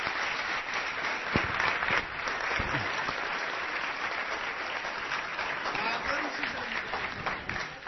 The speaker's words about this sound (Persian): محکم تشویق کنین. محکم.